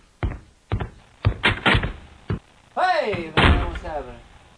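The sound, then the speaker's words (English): Several loud, sharp knocks on a door in uneven bursts, some in quick pairs, followed by a brief vocal sound as the knocking trails off. “What's that? That's a door, man.”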